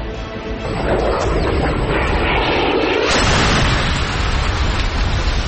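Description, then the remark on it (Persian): A loud missile strike explosion: a drone fires Hellfire missiles at the car carrying Qasem Soleimani and al-Muhandis, about 100 metres from the airport security-zone exit. It roars as a sustained, crackling blast with deep rumble, surging again about halfway through before slowly fading into a steady, noisy wash. “خودروها که به 100 متری خروجی محوطه امنیتی فرودگاه رسیدند، یکی از پهپادها دو موشک به سوی خودروی حامل سلیمانی و المهندس شلیک کرد.”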